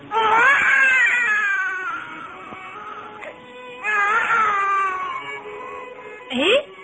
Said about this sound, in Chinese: 别怀疑，这就是你第一次的哭声啊。